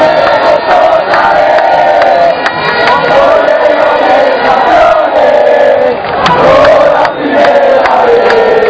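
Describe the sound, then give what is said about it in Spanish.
A huge crowd of Santa Fe football fans chants and cheers in a stadium as their team arrives, a loud, continuous roar of massed voices with swelling rhythmic chants and occasional shouts rising above it. “Mientras las gradas seguían llenándose, los héroes, los guerreros de la octava, llegaron al escenario mundialista entre cantos y arengas de su fiel hinchada.”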